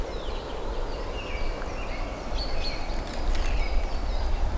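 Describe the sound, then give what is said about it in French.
Several birds sing and chirp busily in a forest along mountain paths of the Devèze massif, over a steady low outdoor rumble, their calls overlapping and growing more insistent toward the end, with no one speaking. “Des oiseaux qui s'égosillent.”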